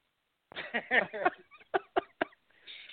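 coughing fit from laughing

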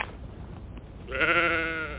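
sheep bleating

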